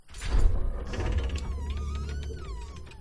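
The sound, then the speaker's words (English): A heavy gate door of thick wood, decorated with door studs, swings with a deep scraping rumble and a drawn-out, wavering creak, steady for a few seconds, with no one talking. “They're made of thick wood, which are decorated with beautiful door studs.”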